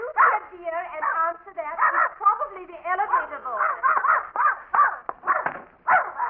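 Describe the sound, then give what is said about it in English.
Mrs. Pondicker's dog whines and barks in a restless, nearly continuous string of high, wavering whimpers broken by short yelps, lasting several seconds. “I came for Mrs. Pondicker's dog to take him for a walk.”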